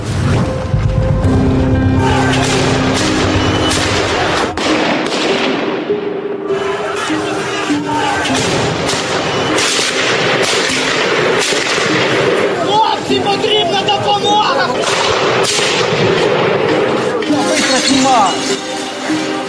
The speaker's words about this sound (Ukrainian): Бойовими стріляє